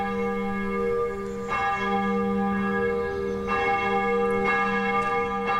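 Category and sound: ambience, church bells ringing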